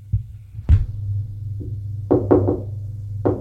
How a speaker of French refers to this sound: On a frappé à la porte.